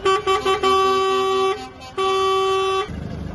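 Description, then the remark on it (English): Horns of a humanitarian aid truck convoy honk loudly as it passes through the Rafah crossing from Egypt into Gaza: several quick toots, then a long sustained blast, a brief gap, and another long blast, followed by rumbling traffic noise. No one speaks. “Meanwhile, the biggest humanitarian convoy to enter Gaza since the conflict began passed through the Rafah crossing with Egypt.”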